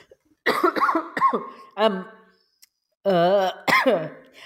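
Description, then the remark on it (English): A loud coughing fit: several harsh coughs in quick succession, then strained, throaty bouts separated by short pauses, sounding rough and uncontrolled. “Whilst you're having a coughing fit, right, I'll resume running this podcast, shall I?”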